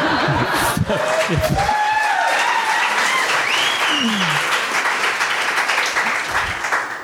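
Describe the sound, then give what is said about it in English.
A crowd breaks into sustained, dense applause lasting several seconds after a Robert Frost impression, with a few chuckles and brief laughter mixed in, then the clapping gradually thins toward the end. “So I'm supposed to burst into applause after that.”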